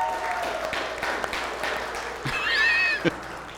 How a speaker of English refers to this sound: Hey, can everybody give my wife a round of applause? Thank you, hey.